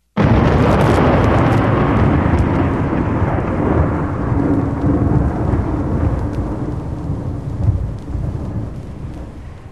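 A long, deep roll of thunder, following a huge flash of lightning and about ten li away, starts abruptly and rumbles loudly for the whole stretch, slowly fading with a brief swell near the end. No voices are heard.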